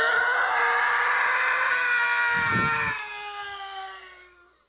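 The Howie Scream, a stock movie scream sound effect: one long, loud, high-pitched yell that slides slowly downward in pitch and trails off at the end, with a brief low rumble partway through and no talking.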